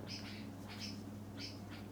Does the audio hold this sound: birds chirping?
yes